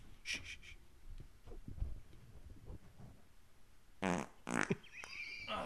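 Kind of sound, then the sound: human body sound, fart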